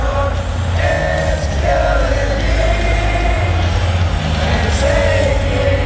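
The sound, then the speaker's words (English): Michigan fans at a hockey game sing along loudly to a song, many voices blending into rising and falling sustained chant-like phrases over a steady, dense roar with heavy low rumble underneath. “Here's Michigan's rendition at a hockey game last year.”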